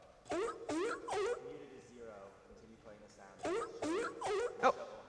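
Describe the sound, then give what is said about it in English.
A sea lion sound effect played by a computer program: the sea lion barks in two bursts of three harsh, honking calls, loud and raspy with a strong low tone, separated by a quieter stretch of low murmuring and grunting. “So if muted, whatever this orange thing is 0, then play the sea lion sound and think hi, oh hi, for 2 seconds.”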